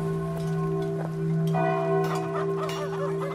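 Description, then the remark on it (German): Church bells ring in Wittenberg on the Elbe, at the Schlosskirche, on Wednesday 31 October 1517, with a steady, resonant hum that lingers throughout, while small birds chirp and twitter over the top toward the end. No one speaks. “Hörst du die Glocken, Mia? Da scheint ein Gottesdienst zu sein.”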